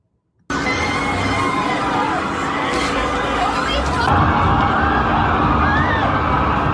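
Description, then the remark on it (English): A large crowd of demonstrators calling for freedom and democracy in Iran erupts into loud, continuous shouting and screaming as a U-Haul truck drives into them on Veterans Avenue. People try to move out of the way, and many voices overlap, sustained and chaotic with no pause after a sudden start. “You can hear people screaming and trying to move out of the way”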